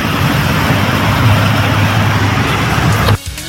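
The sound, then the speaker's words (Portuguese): A steady, fairly loud roar of free-flowing road traffic at the entrance to Narandiba on the Paralela, with a low engine hum running underneath and no voices, before the sound drops away abruptly near the end. “o trânsito na entrada de Narandiba aí, ó. Tudo livre na paralela.”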